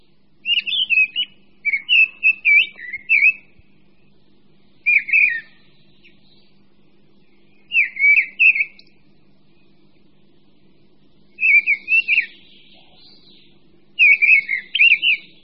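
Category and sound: bird, mistle thrush singing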